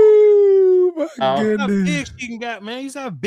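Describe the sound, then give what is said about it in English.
A big female dog with a new suede collar lets out a long, steady howl, then breaks into a rapid run of wavering, talk-like yowls that rise and fall. “Look how big she got, man. That's a beautiful dog, bro.”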